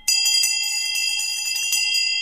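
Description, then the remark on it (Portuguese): The large Peace Bell, cast from bronze cannons given by the nations of the First World War and rung 100 times every day, tolls, its loud, shimmering ring sustaining without fading, with faint repeated clangs riding on the steady resonance; no voices are heard. “Desde então, todos os dias, o Sino da Paz badala 100 vezes para advertir a voz da consciência de cada um para a vida e para a paz.”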